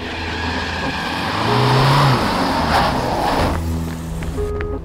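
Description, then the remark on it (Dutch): A van drives up to Van der Bijl's home in early February 2006, its engine a steady low rumble that swells louder midway with a rising hum, then eases back to a constant drone. No one speaks. “Van der Bijl staat in de deur van zijn woning als er een busje aankomt rijden.”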